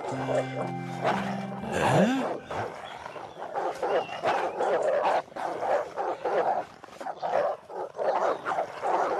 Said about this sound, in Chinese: 您看这些狗， 昨天没有啊